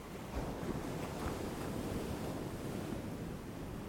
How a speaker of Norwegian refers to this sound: Når bølgen slår inn, puster du langsomt inn. Når bølgen går ut, puster du ut.